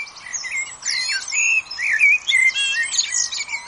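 Several male birds sing at once in woodland in a busy, overlapping chorus of bright chirps, trills and warbling phrases, continuous, with no voices.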